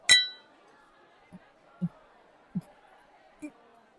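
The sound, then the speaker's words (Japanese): Glasses clink once in a toast at the end of a workday, a bright ringing chime that fades quickly, followed by a few soft, dull knocks spaced apart over a low murmur of background chatter. “そんじゃ、今日もお仕事お疲れ様した。乾杯。”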